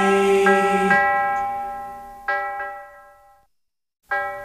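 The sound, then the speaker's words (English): Bright, resonant golden bells of a 1260 KYA radio contest ring out in a chiming sequence, several loud strikes with long shimmering decays, a brief silence, then another strike begins. “The sound of the golden bells meaning you can win with 1260 KYA.”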